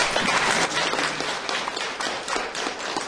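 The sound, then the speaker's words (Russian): Steady applause from an audience welcoming the first performers onto the stage, a dense wash of many hands clapping at once, sustained and fairly loud throughout with no voices heard. “Итак, я хочу пригласить на сцену наших сегодняшних первых исполнителей, мы готовы их поприветствовать.”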